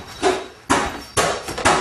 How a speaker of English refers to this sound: Go to the door, front door! Why are you banging on my door?